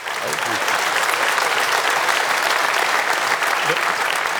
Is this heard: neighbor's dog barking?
no